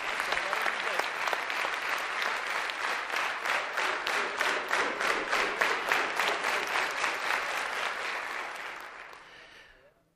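Sustained audience applause at a business coaching course, a dense wash of many hands clapping steadily, with a faint rhythmic pulse emerging midway before the clapping thins and fades out at the end.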